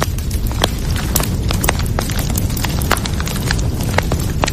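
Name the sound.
crackling fireplace fire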